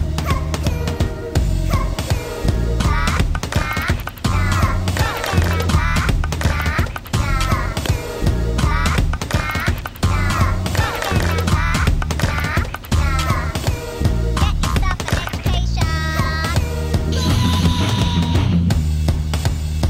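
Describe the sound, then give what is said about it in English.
A song plays at full volume for the whole stretch, with a steady, punchy beat, thick bass and busy layered sounds on top, including squawking, caw-like sampled noises. “Yeah, and we just heard a song”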